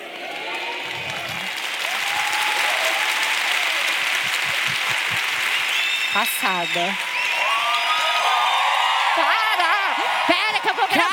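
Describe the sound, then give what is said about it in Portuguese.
An audience, shouting on cue while being filmed for a social media story, cheers and applauds continuously, with rising whoops and shouts breaking out near the middle and again toward the end, while a couple of voices speak briefly over the noise. “Ah, então vamos fazer assim, a gente grava aqui, daí quando virar, vocês dão aquele grito.”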